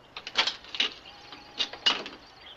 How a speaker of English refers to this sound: The door opens very slowly and Miss Wainfleet peers out.